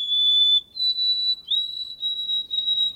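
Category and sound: bird, white-throated sparrow whistled song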